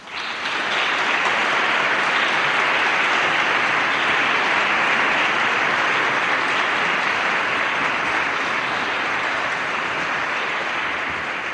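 A large audience claps steadily for about eleven seconds to welcome a choir to the stage, a dense, sustained wash of applause that starts abruptly and stays loud and even throughout, with no talking.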